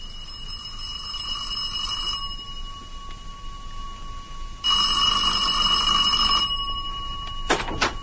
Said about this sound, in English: Well, just over an hour ago, I was in the study when the front doorbell rang.